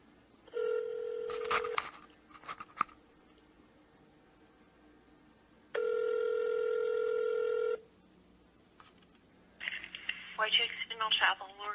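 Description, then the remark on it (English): A telephone is dialed with a few quick tones to call a funeral home, then two long ringing tones sound on the line, followed by a faint, muffled voice picking up. “Well, I made a couple phone calls, and let's see.”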